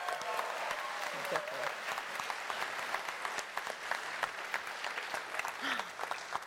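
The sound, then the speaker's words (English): Sustained applause from an audience, a dense steady clatter of many hands clapping with faint crowd murmur mixed in throughout, for the Thai team PH21 after it won the game category at a world championship. “Everybody, give him a round of applause.”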